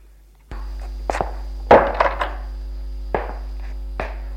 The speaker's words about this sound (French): Le jeune ferme la porte.